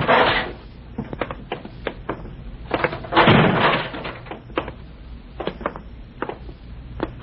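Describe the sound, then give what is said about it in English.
A heavy fire door in a damp basement swings open with a rush and clunks, then shuts with a dull, resonant thud midway, with scattered footsteps and small clicks continuing around it. “In here. Through this fire door.”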